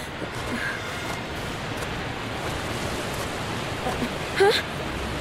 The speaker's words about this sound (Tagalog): Bumibilis ang pag-agos ng tubig sa ilog. At unti-unti itong umaapaw.